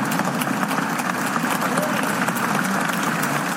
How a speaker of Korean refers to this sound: 2017년 7월 미국 상원에서는 표결을 위해 입장하는 원로 의원에게 여야 의원들이 일제히 일어서서 박수를 보냈습니다.